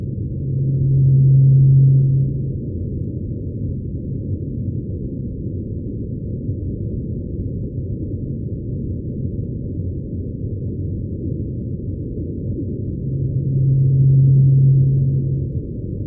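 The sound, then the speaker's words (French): A low, steady whale call sounds twice, about twelve seconds apart, each note lasting a second or two over a constant murky underwater rumble, with no voices. “Alors, vous allez voir, ça ressemble beaucoup à la baleine blanche antarctique, mais c'est juste la première note.”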